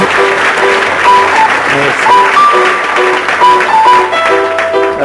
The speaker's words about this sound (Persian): مرسی مرسی. خودتون رو تشویق کنین دوباره سرحال شین.